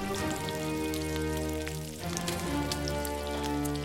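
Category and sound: food or drink, food sizzling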